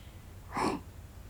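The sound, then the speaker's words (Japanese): A single big yawn, a short breathy exhale that swells and fades in under half a second, against a quiet, low background hum. “っきなあくびじゃね。”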